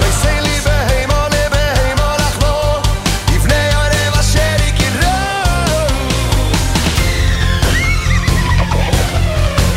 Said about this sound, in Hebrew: איזה, תקשיבו, הם עכשיו רותמים פה את הסוסים.